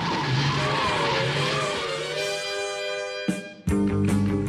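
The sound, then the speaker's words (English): A car engine revs hard and tires squeal loudly in long rising and falling screeches, then a sharp cut and another burst of screeching as the vehicle tears away. “To the Batmobile. Let's go. Atomic batteries to power. Turbines to speed.”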